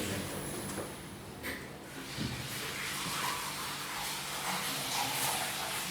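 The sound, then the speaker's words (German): A steady rush of hop trub draining out of the valve at the bottom of a brew kettle, a continuous hissing splash with no pauses, running evenly for the whole stretch with no voices. “Das habe ich jetzt unten bloß abgelassen, weil das brauchen wir nicht alles oben im Kühlschiff.”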